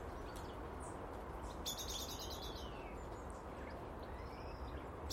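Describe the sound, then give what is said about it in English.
Starlings (stuckies) up in the big Lulandi chatter and call in quick bursts of high, rapid notes, with a busier flurry in the middle, over a steady low rumble of background noise. No one speaks. “You can hear the starlings, the stuckies up in the big Lulandi.”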